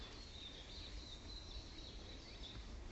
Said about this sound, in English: I can hear a bit more bird life in here too.